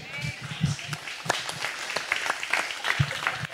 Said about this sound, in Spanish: ¿por qué aplaudes? Y ahí sale bien fuerte ahí en el...